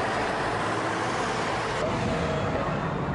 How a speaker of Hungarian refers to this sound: Ebből naponta több ezret lehet mondani, hogy áthalad ezen a településen, teljesen felgyűrve az utak, egymást érik az autók. Azok, akik szerettek volna gyorsan átutazni a városon, egyáltalán nem örültek a kígyózó autósornak.